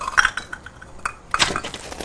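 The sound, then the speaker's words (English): Plant pots clink and clatter as they are shifted out of the way, a burst of bright knocks at the start and another cluster near the end, with no talking. “Move these pots out of the way.”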